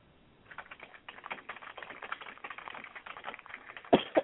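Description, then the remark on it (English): Rapid, irregular clicking of a woman's fingers typing on a keyboard while she hosts a radio show, a steady patter of light keystrokes with a couple of sharper, louder taps near the end, without any talking. “You can hear little fingers typing away.”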